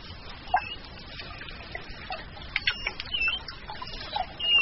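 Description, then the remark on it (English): Several short, high squeaky chirps and squeals from manatees, 10-foot-long sea cows, communicating underwater, scattered irregularly over a constant watery hiss and background noise, fairly faint and with no voices. “That's what manatees sound like when they're communicating”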